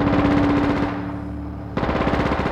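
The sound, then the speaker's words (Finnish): Two loud, rapid, rattling bursts of machine gun fire aimed at the engine of an approaching vessel, separated by a brief pause in which a droning engine hum carries on underneath. “Pamauta sarja sen moottoriin ennen kuin se musertaa minut alle.”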